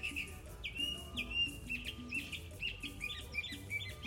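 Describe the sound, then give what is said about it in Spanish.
A bird calls over and over in short, high chirps at a steady rhythm, with low murmuring ambient noise and faint tonal sounds underneath. “Ayer me pasó a la noche que el pájaro este mierda, era el atardecer, no era noche, todavía estaban los gritos así como lo escuchan de fondo. Ese, escuchen.”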